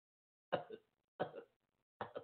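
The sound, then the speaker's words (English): Three harsh coughs, fairly loud, spaced evenly with short silent gaps between them. Each one is a sharp burst followed by a smaller rasping second push. “Y'all hear me coughing on the show.”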